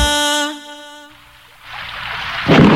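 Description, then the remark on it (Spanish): A sustained musical tone fades out, giving way to a steady hiss of rain with a low rumble underneath, then a louder burst of thunder breaks in near the end. “Afuera llueve, pero acá suenan los éxitos y la mejor compañía.”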